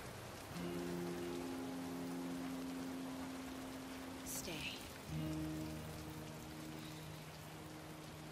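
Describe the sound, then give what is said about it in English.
Steady rain pours down in a dense, even hiss throughout, with low sustained tones humming underneath and a brief higher swish near the middle. “Raindrops roll down Matt's face as they grip each other's hands.”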